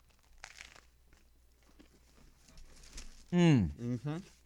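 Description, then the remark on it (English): Crackly crunching of someone biting into and chewing a large sandwich on crusty, freshly baked bread, a few irregular crisp bursts, then a loud, sliding vocal murmur at the end. “Hold on, I'm taking one more bite before I'm like chewing all in your ear.”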